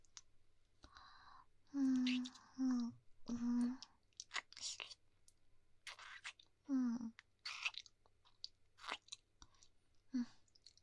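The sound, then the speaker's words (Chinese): Quiet mouth sounds imitate biting and chewing: wet clicks, smacks and soft crunches scattered throughout, with a few short hummed vocal bursts, no spoken words. “忍不住想咬一口，怎么办？让我咬一口，好吗？”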